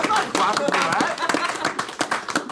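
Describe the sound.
A studio audience breaks into applause: dense, rapid clapping from many hands, with a few voices cheering over it, holding steady and loud for the full couple of seconds.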